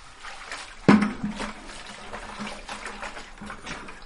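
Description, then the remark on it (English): Water splashes into a bucket for mixing drywall mud, with a sudden burst just under a second in, then keeps pouring and sloshing steadily, with no talking. At a cafe in downtown Stockton where office spaces are being built. “And when you're mixing mud, you never want to dump in too much water because it's just like mortar mix for brick.”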